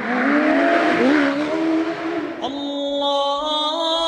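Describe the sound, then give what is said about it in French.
A car engine roars loud, its pitch climbing and dipping as it revs, then settles into a steady high whine with a raspy exhaust note. “Et ouais, le bruit du moteur, le bruit de l'échappement, le bruit de cette voiture, peut-être celui que j'associerais au son qui a marqué ma vie.”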